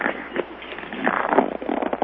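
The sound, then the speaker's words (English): Paper rustles and crinkles in a steady run of crisp, dry crackles for about two seconds, with no voice over it, the crackle rising and falling slightly in loudness. “He's rustling paper”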